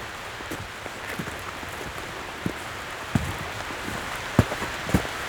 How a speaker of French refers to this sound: Éveillés par les odeurs, la pluie, les gouttelettes d'eau, le torrent qui fuit là-bas dans la vallée.